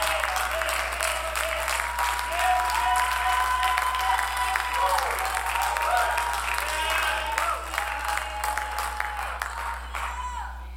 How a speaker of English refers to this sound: Oh, come on, let's clap our hands. Let's give God praise.